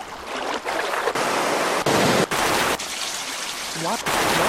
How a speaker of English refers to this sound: Let's see, where's that waterfall noise?